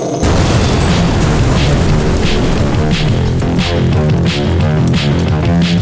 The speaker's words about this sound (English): Kaboom! Tonight on B-Movie Mania. Explosion!